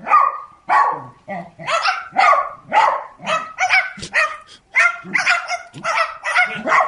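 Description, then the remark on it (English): Repeated short barks in quick succession, a dog's lower bark joined by a parrot's higher-pitched, slightly raspy imitation of barking, loud, with no talking. “You'll hear the dog barking. Then you're going to hear the parrot come in, who's more high-pitched. But you know what? Barking like a dog.”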